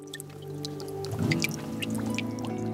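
Warm water trickles and drips steadily from a snow-free pipe at an old power station, number 72, with scattered bright splashy droplets over a constant low hum. It's moderately quiet, with no voices.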